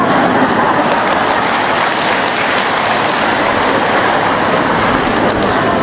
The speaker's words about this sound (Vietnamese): Rồi chúng ta cho một tràng pháo tay tạ ơn Chúa.